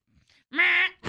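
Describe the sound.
A voice imitates an alarm clock going off as a sound effect for a story, with a single loud, steady, buzzing tone held for under half a second, preceded by faint breathy noises, then another burst begins.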